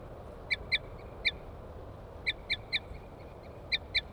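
Wild birds coming down onto a cage, the female giving short, sharp tooting calls in quick clusters of two or three and the male chittering on approach, repeating several times over a low, steady background hiss. Nobody speaks.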